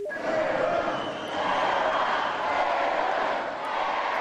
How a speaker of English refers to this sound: As you can hear, the crowd very happy to see her. 2,000 people cheered very loudly.